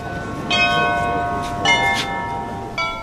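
The bells of St. Michael's Cathedral in Ukraine ring out in a steady peal, several strikes landing about a second apart, each leaving long shimmering overtones that blend into a resonant wash over faint background ambience.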